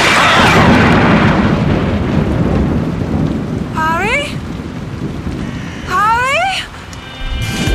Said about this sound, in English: The lightning will be striking any moment now.